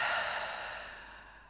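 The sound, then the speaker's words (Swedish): A long, deep breath blown out through the mouth after inhaling through the nose during a guided breathing exercise, a soft airy whoosh that starts fairly strong and gradually fades over a second and a half, with no talking. “Och släpp ut genom munnen.”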